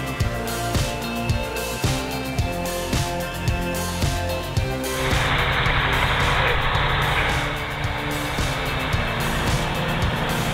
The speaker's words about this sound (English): I must confess, the auditory experience of the Mercedes 5.8 engine is remarkably captivating, surpassing even the impressive sound of the Scania.